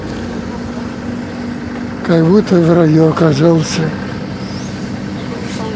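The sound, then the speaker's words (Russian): Steady low engine rumble and road hiss fill the inside of a moving bus, constant throughout, while a man speaks briefly over it midway through. “Ух, как тепло в автобусе, наконец.”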